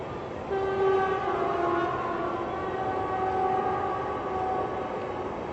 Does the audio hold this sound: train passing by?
yes